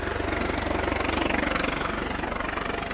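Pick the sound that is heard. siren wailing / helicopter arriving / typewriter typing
helicopter arriving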